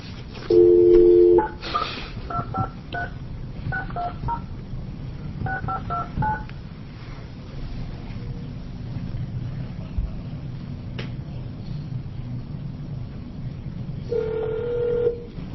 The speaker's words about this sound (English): We're going to try this phone number one more time and see if we get an answer.